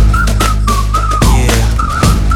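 A bright, wavering whistle runs in short melodic phrases over a loud, thumping music backing, dipping and rising in pitch across a couple of seconds.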